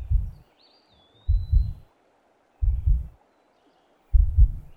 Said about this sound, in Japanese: 目を閉じて。僕の胸に耳をくっつけてみて。僕の心臓の音、聞こえる？